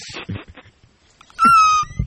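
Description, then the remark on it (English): A person deliberately makes a single loud, piercing, very high-pitched squeal with their voice, holding one shrill, steady pitch for about half a second. Soft rustling and muffled sounds come before it, and a low thump follows. “I can make a very high pitched sound with my voice that really pisses off Sapphire”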